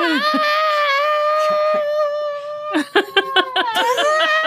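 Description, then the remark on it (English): A voice imitates a character's falling scream during a tabletop role-playing game, the character leaping from branches: one long, loud, high-pitched "ah" held for a few seconds, gradually sliding lower in pitch, followed by choppy bursts of laughter. “Like she kind of makes like a running leap and she is screaming the whole way down. So you guys just hear, ah!”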